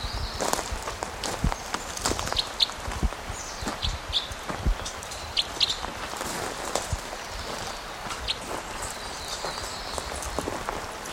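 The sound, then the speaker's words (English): Steady footsteps of a person walking toward a bird crunch over rough ground outdoors, fairly loud, with an irregular walking rhythm and faint high chirps in the background. “Okay, so I'm walking towards him again.”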